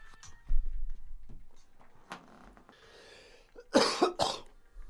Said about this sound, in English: Still choking. Still coughing.